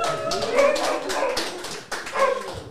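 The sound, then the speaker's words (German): A dog outdoors, outside a venue in Görlitz, Saxony, gives several short, whiny barks and yips in quick succession, fairly clear, with a faint hum of background noise and no talking. “Oh, und draußen ist noch ein Hund.”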